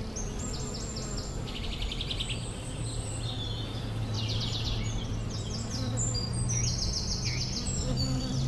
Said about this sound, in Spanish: ¿Escuchan eso? Un suave murmullo de abejas polinizando y rodeando todas estas flores amarillas.